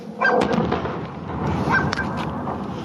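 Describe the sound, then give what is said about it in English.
A muffled explosion of a Boeing 737-800 airliner near Tehran Airport, about 11 seconds after a projectile struck it: a dull boom swells into a steady, rumbling roar lasting several seconds, with a few sharper cracks scattered through it and no voices. “11 seconds later, the sound of an explosion.”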